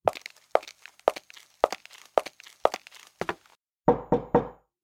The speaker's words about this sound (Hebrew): אתה דפקת על חתיכת עץ.